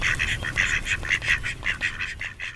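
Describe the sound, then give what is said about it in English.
A rapid series of nasal duck quacks, about a dozen in quick rhythmic succession, steady over low background rumble, with no voices. “Because you never know which recording of the damn ducks might have a slight flaw in it.”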